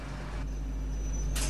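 Bus doors open in the bus driving simulator OMSI 2, in Berlin-Spandau: a steady low engine idle with a thin high whine, ending in a sudden sharp burst of pneumatic air hiss.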